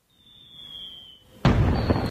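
A thin, high whistling tone glides steadily for over a second, then cuts to a sudden loud explosion that roars for about half a second before stopping abruptly, from a Final Fantasy XII cutscene in which Balthier and Fran arrive. No voices.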